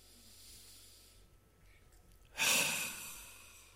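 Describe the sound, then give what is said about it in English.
A quiet, airy inhale gives way to a loud, breathy exhale that swells suddenly and fades slowly, like many seated people breathing out together during a prayer exercise. No one speaks. “Let's just breathe together.”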